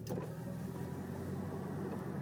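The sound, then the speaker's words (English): A car's power window is rolled down by the driver, about 68 degrees out, with a steady electric motor whir and low droning hum lasting a couple of seconds after a brief initial click, with no voices. “So you're gonna notice a little more noise now because I rolled down my window to get some air in here.”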